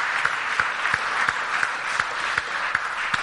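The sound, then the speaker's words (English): A crowd claps steadily for someone who stood to be prayed for and give their life to Jesus, a dense wash of many hands with a few sharper individual claps standing out at a fairly regular rhythm, moderately loud, with no talking over it. “Round of applause.”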